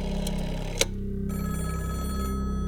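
An old telephone bell rings steadily in Kenneth Oakley's office at London's Natural History Museum, a continuous rapid metallic trill with a brief sharp click partway through. No one speaks.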